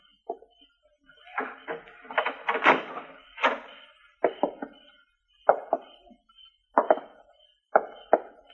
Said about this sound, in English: We'll go in. Well, come. You go up the steps with me. Open the door.